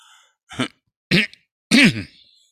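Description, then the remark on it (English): Someone clears their throat three times, each raspy, partly voiced burst louder than the last, with short pauses between and no talking. “I'm always going to be clearing my throat, I'm afraid.”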